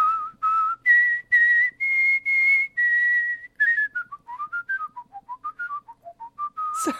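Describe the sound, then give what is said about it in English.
A clear whistled rendition of Twinkle, Twinkle, Little Star by a world champion whistler, played solo, starting with a row of long, steady held notes, then breaking into a quicker rippling run of short notes that dips and rises in pitch. “Oh, Plus, he also performed his rendition of Twinkle, Twinkle, Little Star, which he actually does on the show for me as well.”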